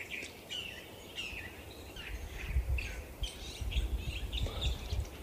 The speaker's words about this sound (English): There's about three California thrashers singing to each other.